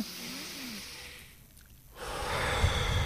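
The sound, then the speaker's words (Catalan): A slow, deep conscious breath drawn in, a brief pause, then a long, airy exhale with no talking; the first of three conscious breaths in a breathing exercise. “I prenem consciència que estem inhalant aire i expulsant l'aire.”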